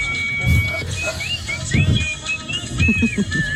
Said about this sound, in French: Elle est le rossignol de Metz. Cette mamie a une passion peu commune, siffler.